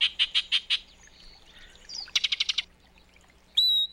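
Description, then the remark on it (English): A yellow-breasted chat sings a varied song: four evenly spaced chirps, a pause, a quick rattling run of about seven high notes, then one sustained whistle. No one speaks. “When the northern summer declines, the yellow-breasted chat will make its way south to winter in Central America, until the springtime draws it north again.”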